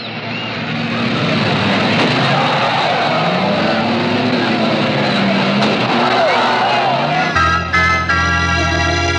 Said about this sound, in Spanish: El pequeño carro perseguido ha girado hacia la derecha. Iván lo sigue, aumentando la velocidad.